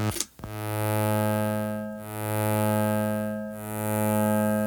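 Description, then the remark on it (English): A sustained, buzzy synthesizer tone drones steadily after a brief click at the start, bathed in a splashy, metallic spring-reverb wash that swells and dips slowly. No voices. “You can add spring reverb.”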